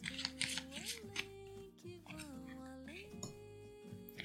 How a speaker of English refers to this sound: Okay, so shuffle these cards.